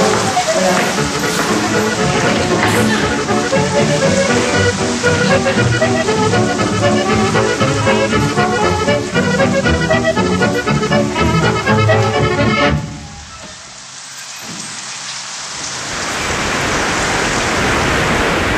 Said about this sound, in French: Là, ça résonne un peu parce qu'on se trouve donc dans le pavillon central et là on entend la pluie qui tombe en fait sur la verrière.